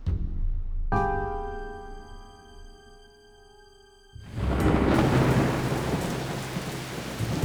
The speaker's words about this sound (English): So this is why they call it the Big Boo-Hoos. It never stops raining.